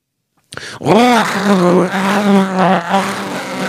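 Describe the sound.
A voice imitates the strange, buzzing growl a dog makes while playing, jumping around and grabbing sticks: rising then settling into a steady droning rumble with harmonic overtones, loud and continuous for about three seconds.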